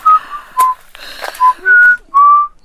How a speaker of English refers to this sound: You whistle no more.